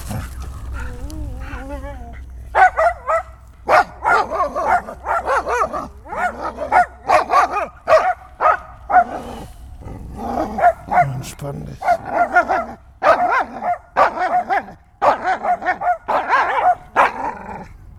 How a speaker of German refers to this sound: Oh, jetzt kommt der blöde Hund.